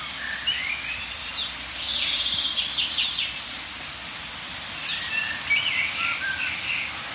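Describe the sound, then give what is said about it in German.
Birdsong fills the background, blackbird and chaffinch phrases repeating over a steady hiss of aspen leaves rustling, with several bright trills and chirps scattered throughout. “Amsel und Buchfink, wie immer omnipräsent.”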